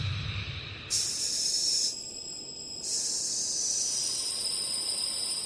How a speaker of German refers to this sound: Mein Vorrat an Sauerstoff zischte hinaus ins leere Vakuum des Alls. Ich war mir nicht sicher, wie das ausgehen würde. Aber als der Sauerstoff durch mein Ventil zischte, begannen die Tränen, die aus meinen Augen liefen, langsam zu verschwinden.